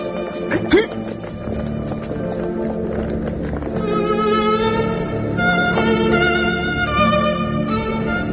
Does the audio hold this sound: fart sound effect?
no